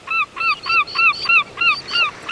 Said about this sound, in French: Tous les chants d'oiseaux que vous avez entendus dans ce reportage sont des sons captés par Olivier Swift de l'île Dieu à Saint-Nazaire en passant par le marais breton.